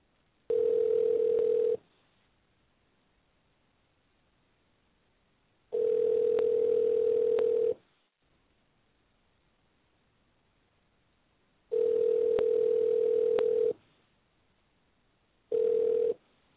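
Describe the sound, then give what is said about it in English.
A steady electronic ringback tone of an outgoing phone call to a man's phone number repeats about four times, each roughly two-second burst separated by several seconds of silence, clear and alone with no voices. “give me a second to pull his phone number out of my phone, and then we're calling his ass.”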